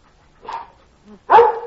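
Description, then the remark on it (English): A dog barks twice on command: a shorter woof followed by a louder, sharper one, with a faint low whine just before the second bark. “Hey, Nick, shut up that mutt.”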